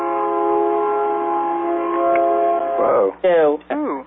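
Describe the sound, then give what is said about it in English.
A train horn blares in one long, steady, loud blast for nearly three seconds, followed by a few short wavering tonal bursts near the end, heard in the background of a participant's phone line on a conference call. “Whoever has the train in the background, put the mute on.”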